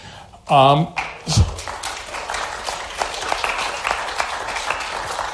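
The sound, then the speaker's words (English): An audience gives lukewarm, steady applause of moderate loudness after a speaker's introduction, running for several seconds and opening just after a short voiced exclamation and a single low thump. “You know, I would have to say that in spite of all that introduction, that was a pretty tepid clapping, wasn't it?”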